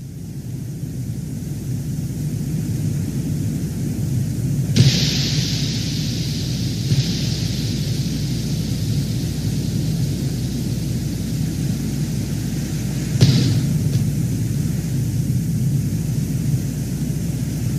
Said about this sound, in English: you've found the Venera 14 microphone recording of Venus's atmosphere, the sound of the lens cap being blown off, and the drill trying its darndest to get a core sample of Venus, but instead testing good old Russian steel.